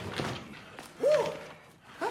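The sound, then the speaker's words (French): A man slides across a car hood: a brief squeaky scrape against metal with a dull thump, surrounded by softer rustling movement. “Le coach glisse sur le capot de la voiture.”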